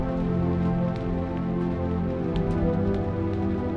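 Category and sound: nature, rain falling outside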